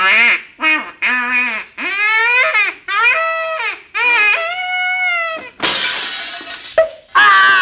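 A run of loud, nasal, quacking calls suddenly gives way to a sharp crash of shattering glass as a decoy duck flies through a window, a bright, noisy burst lasting about a second before the calls resume.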